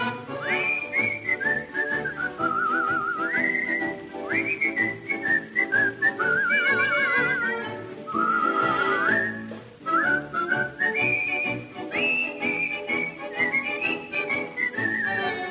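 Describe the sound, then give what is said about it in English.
Someone whistles a bright, bouncy melody with warbling trills and sliding notes, loud, over a full instrumental accompaniment. “Whistle a tune and wave a cheery hand.”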